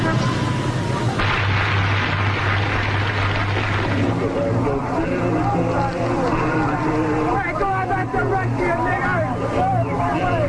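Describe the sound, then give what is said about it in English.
A group of young boys shouts and yells loudly and continuously at people stopped in their cars, over a low, steady engine rumble from the stopped traffic, their voices overlapping in a noisy outdoor clamor. “There's a group of young boys here yelling at the people stopped in their cars.”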